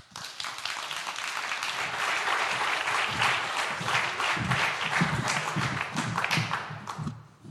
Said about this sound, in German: Bitte kommen zu mir auf und einen herzlichen Applaus.